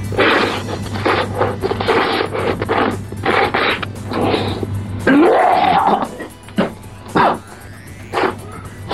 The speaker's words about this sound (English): What is that sound? It's familiar. It sounds kind of like someone slurping up shit.